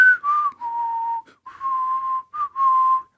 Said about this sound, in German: Also Pfeifen ist nicht seins. Habe ich jetzt leider nicht erkannt.